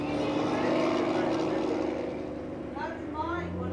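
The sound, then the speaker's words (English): Loud, steady roar of semi-trucks packed with food and household goods passing on the main road through Schurz, past the Walker River Paiute Tribe's Food and Ag Center, the engine rumble filling the whole moment and easing slightly toward the end. “Semi-trucks packed with food and household goods roar past the Walker River Paiute Tribe's Food and Ag Center.”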